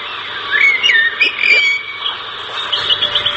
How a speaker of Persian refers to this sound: پرنده ها جفت جفت با آسمان می پرند و چیخ چیخ می کشند و خوش می خوانند.